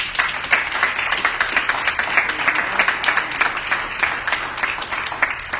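An audience gives God a hand clap, clapping steadily for several seconds, a dense, crackling wash of many hands with a few sharper individual claps standing out, sustained at an even level throughout.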